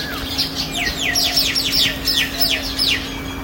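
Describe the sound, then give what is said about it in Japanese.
Lively birdsong fills the air at a hotel where free-range chickens call from here and there, with a quick series of bright, downward-sweeping chirps repeating steadily over a faint constant hum and no voices. “もうとにかく鳥がにぎやかです。”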